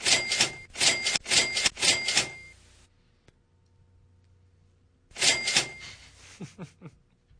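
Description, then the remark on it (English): A mechanical cash register rings up a sale: a burst of rapid clacking key strikes, a pause of near silence, then another run of clicks and rattles, fairly loud. “Could you please play the cash register sound effect in honor of my new job?”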